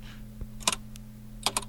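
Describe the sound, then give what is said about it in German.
Sharp mechanical clicking of an old Zeiss Icon Box Tengor, a historic leather-covered tin box camera shooting 6x7 format: two quick double clicks about a second apart, crisp and fairly loud, over a low steady hum with no voices. “Das ist eine Zeiss Icon Box Tengor. Also eine alte, wirklich historische, mit Leder beklebte Blechbox im Prinzip.”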